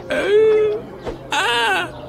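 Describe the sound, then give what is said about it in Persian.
A voice actor cries out in two long, wavering wails separated by a brief catch of breath, loud, with no talking around it. “صدا بازیگر گریه نکن، ما هممون مثل همین صبح که از خواب پا میشیم میکروفون به دهن میگیریم.”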